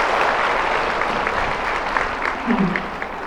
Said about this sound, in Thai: เสียงปรบมือดังไปถึงห้องประชุมนะคะคงบอกได้ว่าช่วงเวลาที่ผ่านไปสร้างความประทับใจให้ผู้เข้าถึงห้องประชุมมากเพียงใดนะคะ